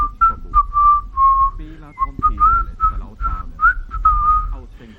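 A man strolling about whistles a casual, meandering tune to himself, the clear notes gliding up and down in short phrases with brief breaths between them.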